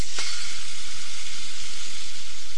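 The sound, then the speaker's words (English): A rain stick being turned, giving a steady, bright rushing hiss like running water that holds evenly for a couple of seconds after a short tap at the start. No one speaks. “Turn it like this, it sounds just like running water. That's why Native Americans thought it would make rain.”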